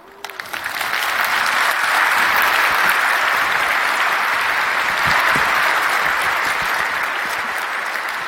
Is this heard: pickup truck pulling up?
no